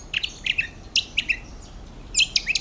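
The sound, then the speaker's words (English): An Australian honeyeater sings in the morning at a farm in Australia, a quick, high-pitched phrase of bright chirping notes in short bursts, pausing briefly before a second rapid flurry, clear over a soft background hiss. “And I was woken up in the morning by a bird singing, which turned out to be a honeyeater, Australian honeyeater.”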